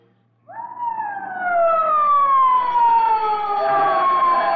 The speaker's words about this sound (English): Who turned in that fire alarm?